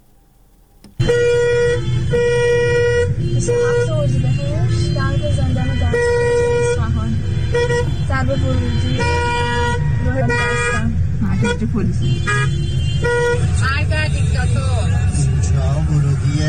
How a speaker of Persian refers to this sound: ترافیک جلوی زندان دستگرد نگاه کنید، تازه هنوز اینجا نرسیده به زندانه.